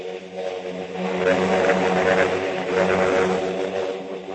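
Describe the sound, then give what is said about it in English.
A steady, droning engine hum of propeller airplanes overhead with a buzzy harmonic tone, sustained and fairly loud throughout with slight swells in intensity, and no voices. “The sound of peace is the drone of planes with quiet cargo.”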